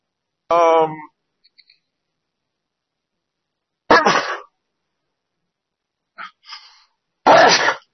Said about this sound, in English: Oh, pardon me. Sad part is the filter doesn't filter out sneezes. Pardon me.